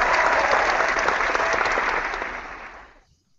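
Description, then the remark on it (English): A crowd applauds and cheers loudly, a dense wash of clapping that holds steady for a few seconds, then fades out quickly at the end. No one speaks. “Let's just get the crowd fired up and start the show.”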